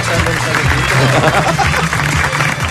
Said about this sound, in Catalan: Un aplaudiment des d'aquí,